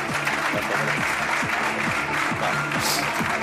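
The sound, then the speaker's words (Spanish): Sustained applause from the crowd at the Benito Villamarín stadium as Boro and Gordillo give their final greeting, a dense steady roar of clapping with a few rhythmic low tones pulsing underneath, loud throughout with no speech. “Boro y Gordillo, dos y el aplauso también de la concurrencia. Aplauso.”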